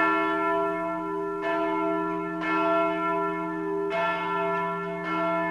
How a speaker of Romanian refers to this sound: Atunci clopotele erau trase de credincioși și veniți la mănăstire.